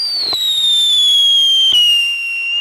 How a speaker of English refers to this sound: It sounds strangely like a bottle rocket.